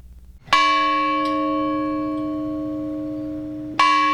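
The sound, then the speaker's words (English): A large, heavy bell from the unfinished World War II battleship USS Illinois is struck twice, about three seconds apart, at Westside Park in Champaign to honor 9/11 victims and first responders; each strike is loud with a long, rich ringing tone that slowly fades. No voices are heard. “A bell from the unfinished World War II battleship USS Illinois was used in Champaign to remember those lost in September 11, 2001 terrorist attacks.”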